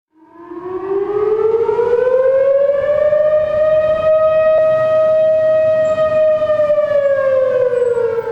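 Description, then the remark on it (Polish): A civil defense air raid siren test sounds in Riyadh, Saudi Arabia, a single long, steady wail, rising from a low pitch at the start to a sustained loud tone that dips slightly near the end, with no voices. “To próbny alarm, gdyby doszło do wojny albo czegoś takiego.”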